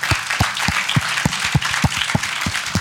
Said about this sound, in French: Enfin, je voudrais que vous applaudissiez bien fort les 50 femmes qui ont participé à ce projet quand même, qui ont du courage.